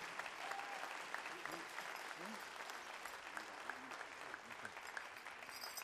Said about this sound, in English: Let's give this young man another nice round of applause. Men's fancy dance.